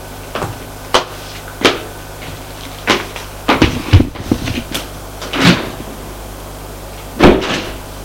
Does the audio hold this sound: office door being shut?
yes